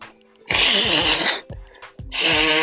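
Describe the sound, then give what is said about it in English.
Someone blows their nose in two loud, wet, honking bursts, the first long and sputtering, then a short pause and a second forceful blast, with no talking. “My bad, I had to blow my nose.”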